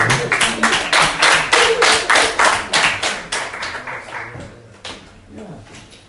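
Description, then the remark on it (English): A group claps in a steady, fairly loud burst of applause that gradually thins out and fades over several seconds, with a few scattered final claps trailing off. “When you clap, we bring it here, there, it's the sound.”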